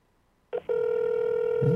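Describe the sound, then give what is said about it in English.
After a moment of silence, a short blip gives way to a steady, sustained ringback tone on an outgoing phone call to a woman, placed during a radio show. It holds an even pitch, and a faint low murmur comes in near the end. “You're calling her. There you go.”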